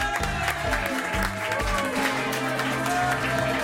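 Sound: enthusiastic audience applause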